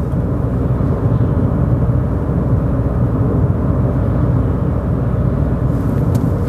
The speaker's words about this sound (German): Und bleib gerade eine Runde dabei, fahr noch ein, zwei Sekunden mit mir Auto und dann hören wir uns gleich wieder.